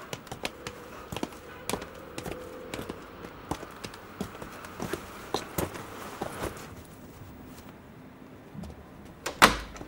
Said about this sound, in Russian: Здравствуйте. Здравствуйте. Я дверь за вами закрою.